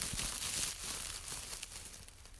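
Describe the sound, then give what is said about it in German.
A soft, continuous rustling with crinkly, papery texture, steady for a couple of seconds with small irregular bursts, fairly quiet, no voices. “Plötzlich raschelte es hinter ihnen.”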